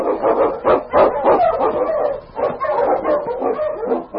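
husky sled dog barking

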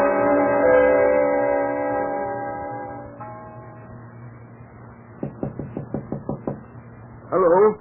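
knocking on a door

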